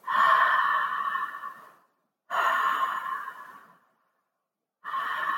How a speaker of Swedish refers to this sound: Där kan man lägga en hand på magen och en på bröstet. Öppna munnen och så sakteliga bara andas ner i magen. Så att man andas det här cirkulära andetaget.